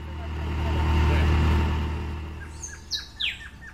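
A vehicle engine's low, steady rumble swells and then fades over the first couple of seconds during a ride toward Pondores in La Guajira, northeastern Colombia, giving way to a series of bright, high bird chirps at the end.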